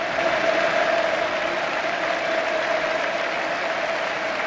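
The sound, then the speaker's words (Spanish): A football crowd at Camp Nou gives a sustained ovation for Andrés Iniesta as he is substituted off for Paco Alcácer, a dense, steady wash of clapping and cheering that holds at an even, loud level for the whole stretch, with no one talking over it. “Escuchad la ovación del Camp Nou para Andrés Iniesta, va a entrar en su lugar Paco Alcácer.”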